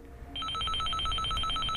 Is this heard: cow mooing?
no